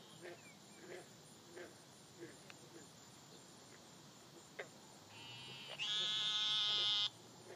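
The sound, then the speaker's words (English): Faint scattered chirps of insects at night in a quiet outdoor setting, then a loud, steady buzzing trill swells up near the end and cuts off abruptly. “I couldn't live right here next to this. They're pretty. The bugs are pretty.”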